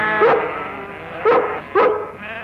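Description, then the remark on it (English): A dog, Lassie, barks at sheep three times in short, sharp bursts, one early and then two closer together, over a steady low background hum. No one speaks. “Get out of here, you crazy hound. What's the matter with you? Get! Leave them sheep alone.”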